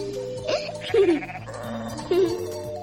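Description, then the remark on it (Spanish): Sheep bleat a few times, two clear wavering calls about a second apart, fairly loud over a soft, steady background drone. “Criaban vacas y ovejas para venderlas en la ciudad.”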